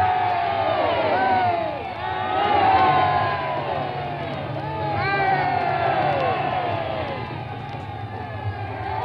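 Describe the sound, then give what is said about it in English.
A large crowd gives three loud, ringing cheers in quick succession as their majesties, the King and Queen, leave a semicircle of Indians and move slowly back toward the royal automobile. Each cheer swells and fades into a dense roar of many voices, with a low steady hum underneath. “Three ringing cheers there as their majesties leave the Indians and are moving slowly back toward the royal automobile.”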